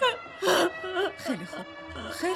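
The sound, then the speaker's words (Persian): A lost child cries and whimpers in broken, wavering sobs, with a louder wail early on and shakier gasping cries after, fairly loud. “خیلی خوب گریه نکن.”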